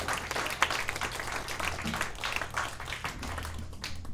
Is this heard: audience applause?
yes